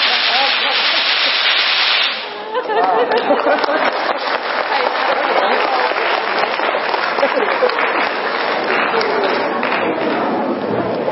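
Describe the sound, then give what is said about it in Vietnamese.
A crowd at a Buddhist gathering claps steadily and densely to welcome the New Year on the first day of spring, a broad wash of many hands that briefly dips then resumes, mixed with sharp crackling pops of firecrackers. “Thôi bây giờ chúng ta cùng vỗ tay đón mừng năm mới hòa lẫn với tiếng pháo của ngày đầu xuân.”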